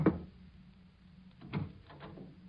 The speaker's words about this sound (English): It'll probably be Mrs. Bronson down on the street. Nosy old Mrs. Bronson coming around just about now, pounding on the back door.